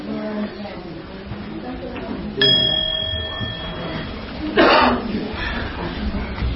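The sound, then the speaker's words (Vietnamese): A single struck temple bell rings out with a clear, sustained metallic tone that slowly fades, signaling the gathered assembly to stand up, over a low murmur of people talking, followed shortly by a cough. “Chào quý vị, xả chân chút xíu nè, nghe chuông chúng ta cùng đứng dậy sau Phật.”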